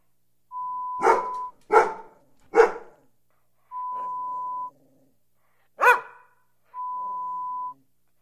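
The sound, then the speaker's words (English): A dog barks inside a home: three sharp barks in quick succession, a pause, then one more, with steady electronic beep tones sounding between them and no one talking. “Play this hour-long recording on repeat play when you leave home and create the impression that you keep dogs inside your home.”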